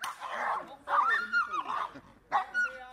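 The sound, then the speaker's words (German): A German shepherd in bite training on a meadow in Kamen, Germany, barks and snarls in a few loud, agitated bursts with short gaps, biting into a thick rubber sleeve on a trainer's arm while urged on by whip cracks in the air; no clear talking. “Hundetrainer Markus Brinkrolf steht mitten auf der Wiese und kämpft mit einem Schäferhund.”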